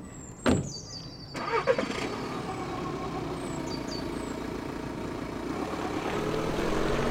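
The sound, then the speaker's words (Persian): A sharp thump comes first, then the engine of a two-year-old car cranks and catches, settling into a steady rumble that swells slightly as the car pulls away after the driver helped his mother get in. No one speaks. “تو سوار شدن ماشین به مادرم کمک کردم.”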